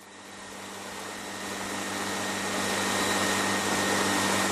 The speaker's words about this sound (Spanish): Es un enorme ventilador que ha dejado boquiabiertos a muchos sevillanos, como este que nos hemos encontrado allí. ¿Qué ocurre? ¿Por qué está ese ventilador tan grande ahí?